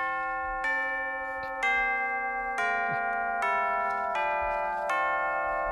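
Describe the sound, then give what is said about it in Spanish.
Tubular bells chime much like a doorbell, ringing out a slow, loud sequence of about seven sustained, overlapping notes that step between pitches, with no voices. “Es un poco campana. Suena timbre. Es un poco timbre, sí.”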